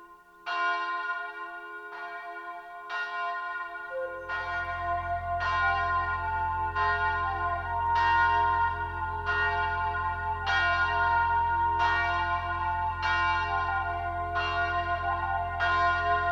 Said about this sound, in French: La grosse cloche sonne, la grosse cloche sonne, la grosse cloche sonne.